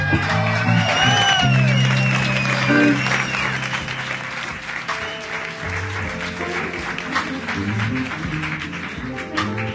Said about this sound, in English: How about a nice round of applause for the band? Let's give it to them.